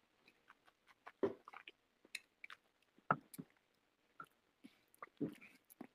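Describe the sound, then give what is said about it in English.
A tiny sip of a drink: quiet wet lip smacks and soft clicks scattered over a few seconds, with a couple of brief slurping bursts and no talking. “Again, this is one more very tiny sip.”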